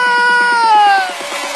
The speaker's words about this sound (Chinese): 尖叫